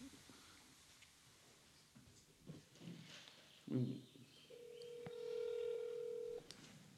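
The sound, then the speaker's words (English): Phone dialing tones while placing a call: a few short electronic beeps, then a long, steady tone lasting nearly two seconds, clear over faint background noise. “Okay, let's get her on the call.”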